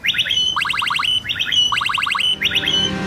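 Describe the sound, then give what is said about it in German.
A blackbird sings a repeated electronic-sounding chirp, mimicking an e-scooter's beep: rapid stacked high notes ending in a sustained tone, repeated about five times over a steady low background rumble. “hat sich zur neuen Lieblingsmelodie der gefiederten Sänger entwickelt und ist nun zu einer Art Zwitscherhymne geworden.”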